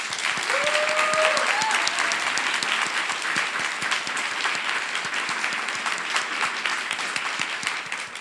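Sustained applause from an audience thanking the technical crew and the sign language interpreters: a dense, steady patter of many hands clapping for about eight seconds, with a brief whistle early on and the clapping easing slightly toward the end.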